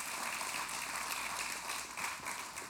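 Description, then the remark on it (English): A crowd claps steadily, giving God a hand clap, a dense wash of many hands with no clear individual beats, holding an even loudness throughout with no voices over it. “Come on, let's give God a hand clap for that.”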